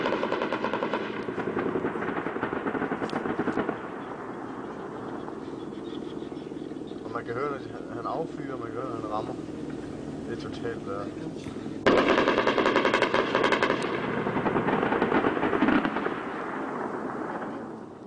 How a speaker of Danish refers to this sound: Jeg har endnu en optagelse fra den her nat, da de her fly og helikopter kommer ind over og hjælper jer og bomber Taliban. Det lød sådan her.